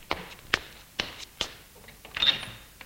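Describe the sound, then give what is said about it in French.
Knocking on the door of a home one morning: four sharp, fairly soft raps spaced unevenly over a couple of seconds, followed by a brief scraping rustle, with no voices. “L'on frappe à la porte.”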